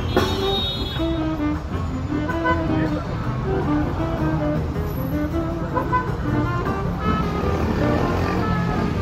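Dense afternoon traffic-jam noise on Avenida Paulista in São Paulo, Brazil, with idling and revving car engines filling the scene steadily, tonal blasts like car horns sounding intermittently through the din, and faint voices mixed in.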